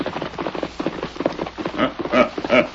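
horses galloping

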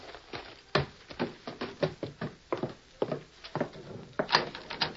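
rattling a locked door

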